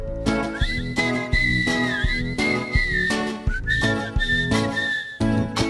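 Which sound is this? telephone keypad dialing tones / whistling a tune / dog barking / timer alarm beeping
whistling a tune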